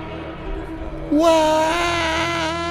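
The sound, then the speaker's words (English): An Aston Martin Valkyrie race car engine roars past at speed down the Mulsanne Straight, jumping from a low drone to a loud, sustained high-pitched wail with a slight wavering pitch that holds to the end. “Listen to the sound of it as it goes down the Mulsanne Strait.”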